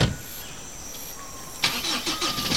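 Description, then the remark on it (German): A car engine turns over and starts up after a brief quiet stretch with a faint steady whine, then settles into a rough running rumble as the car is driven back to the camp, with no talking. “Und ich fahre mit dem Auto zurück ins Lager und hole die zweite Raupe.”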